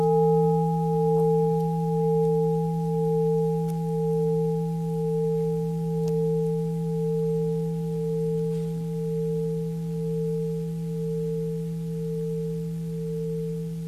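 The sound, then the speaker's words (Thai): A meditation bell, rung for breathing in and out three times before a question is asked, gives a deep, sustained hum that rings steadily for the whole stretch, its layered overtones gently wavering and pulsing in loudness, with no voices or other sounds. “Before we ask a question, we practice breathing in and out 3 times with the bell.”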